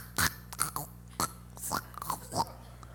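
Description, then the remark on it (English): A person with a bad case of phlegm tries to clear their throat in a string of short, raspy, guttural bursts, about seven in three seconds at an uneven rhythm, sounding like a growling dinosaur, with no talking. “I don't know if I had the worst case of phlegm in my life that I just couldn't get out of there, but when I tried to clear my throat, this is what happened. All of a sudden, I'm talking about dinosaurs, and it goes.”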